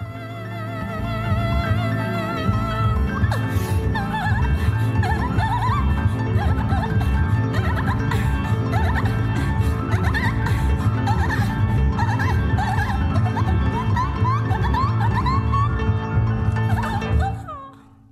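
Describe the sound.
A female singer lets out high, squeaky, warbling chirps, imitating a dolphin, repeated in quick bursts over a loud, steady band with a pounding low groove, near the end of the first song on an album.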